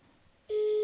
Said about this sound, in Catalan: intentaré fer una cosa que no hem fet cap cop, que és trucar-lo ja des del meu mòbil i posar-lo a la vora del micròfon, a veure si es pot sentir. A veure.